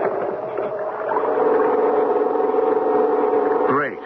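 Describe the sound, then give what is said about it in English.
A small pull-start gas generator, started with a long, hard pull on its starting rope to power a searchlight, drones steadily at a loud, even level, its buzzing hum wavering slightly before the pitch swoops briefly near the end. No voices. “Give the starting rope a long, hard pull, Mac. The way you start an outboard motor, lawnmower, so we can get some juice.”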